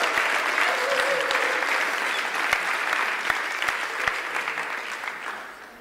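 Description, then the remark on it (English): Sustained audience applause welcoming a man as he comes out, a dense wash of many hands clapping that holds steady for several seconds, with a few sharper individual claps standing out before it gradually softens toward the end. “Just give him a big hand as he comes out.”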